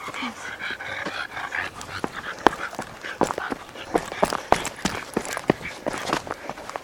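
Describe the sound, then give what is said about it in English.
A couple's dogs on leashes pass by with quick, scrabbling footsteps, panting and a faint growl, sharp irregular clicks and jingles scattered throughout, fairly loud against light outdoor background noise. “Yeah, I needed to get past a couple with their dogs. They were on their leashes, but I warned them just the same.”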